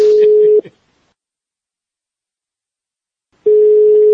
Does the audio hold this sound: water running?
no